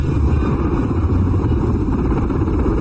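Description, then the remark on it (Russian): A heavy cargo helicopter carrying a Polonez car lands on the ground in an old car advertisement, its engine and rotors producing a loud, steady, low roar that fills the whole stretch without a break, with no voices. “Здесь, откуда ни возьмись, на землю садится грузовой вертолет с полонезом.”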